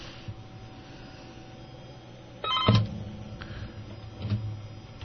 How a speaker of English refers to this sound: Oh, phone's ringing. Why is that not working? All right. You know, I'm gonna take this phone call.